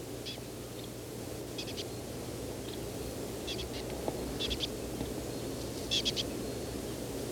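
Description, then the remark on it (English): A small bird foraging in a pine tree near needle tufts, 3-4 meters from the recordist, repeats thin, high-pitched chip notes, often in quick pairs or triplets, every second or so, heard faintly over a steady low rumbling hiss with no voices. “Aiming at the bird that appears to be making this call.”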